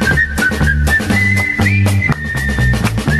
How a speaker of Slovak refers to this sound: Ďalšia pískajúca, tak poďme na ďalšiu. Toto nemožno prehliadnúť. Žandári zo Saint-Tropez.